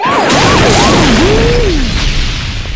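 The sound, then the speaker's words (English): A cartoon-style falling anvil: a wavering whistle slides downward in pitch over a loud, continuous crashing rumble that fades slightly at the end. “Or the anvil overhead.”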